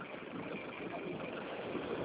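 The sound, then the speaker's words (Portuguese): Continuous street traffic noise at a bus stop, a steady rumble of idling and passing engines that fills the whole moment with no breaks, at moderate loudness over a narrow, phone-like line. “Fala de novo, é que eu tô na rua, tô no ponto do ônibus, mas pode falar, fala.”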